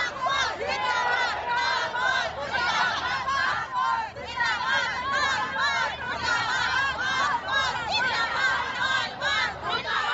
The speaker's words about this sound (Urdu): M came کی اس rally میں تقریباً ہر عمر اور مختلف سماجی حیثیت کے افراد موجود تھے جو وقتاً فوقتاً طالبان کے خلاف اور پاکستان کی فوج کے حق میں نعرے لگا رہے تھے.